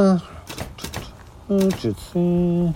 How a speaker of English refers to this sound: He comes to a halt in his typing.